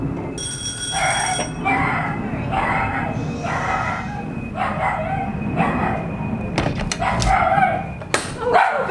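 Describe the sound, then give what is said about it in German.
A host's dog barks over and over in a steady rhythm, about once a second, after a doorbell is rung at a black front door, the bell sounding briefly at the start and a sharp clatter near the end. “Yeah, sorry about the noise of the dog.”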